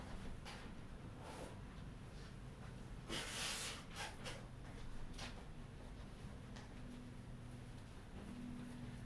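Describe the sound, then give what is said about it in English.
A few forceful, breathy nose blows into a tissue, the loudest a sustained honk near the middle, with shorter snorts around it over a low steady background hum. “Excuse me, I'm going to get a tissue. Mm-hmm. I want to blow my nose.”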